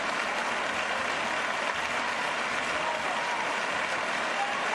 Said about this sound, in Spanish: En el interior, los Reyes eran recibidos con esta gran ovación que vamos a escuchar, con aplausos y gritos de ¡Viva el Rey!